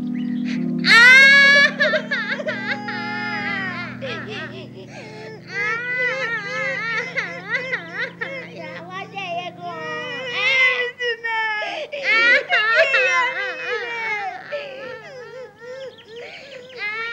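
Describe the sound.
Two voices, one of them lost and afraid, wail and whimper together in exaggerated, wavering sobs for the whole stretch, loud, over a low steady hum that fades out partway through, like performers acting out crying.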